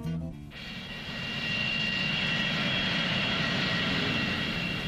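An airplane engine roars steadily and loudly, a dense continuous whine and rush that starts abruptly after a brief moment and holds at full strength throughout, with no voices.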